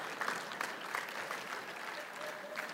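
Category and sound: crowd, audience clapping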